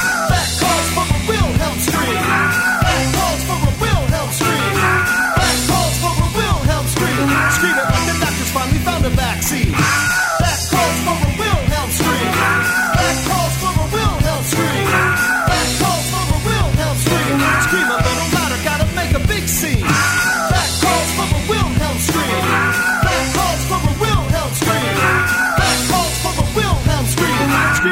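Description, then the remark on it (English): The Wilhelm scream stock movie sound effect rings out again and again at regular intervals, loud over a driving, bass-heavy music track with a steady beat. “That calls for a Wilhelm scream.”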